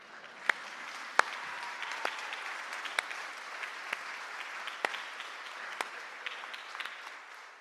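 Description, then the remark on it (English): A church audience applauds steadily for several seconds for a newly baptised person being given a Bible as a gift from the church family, a dense patter of many hands clapping with a few sharper, louder claps standing out, and no voices heard over it. “And people have got applause for less, so.”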